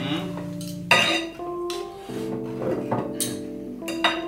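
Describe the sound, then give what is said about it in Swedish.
Cutlery and dishes clink repeatedly during an Easter lunch, with sharp metallic taps and ringing tones scattered irregularly, no talking. “Nu är det alltså, dags för mat. Ja, vi måste faktiskt äta maten.”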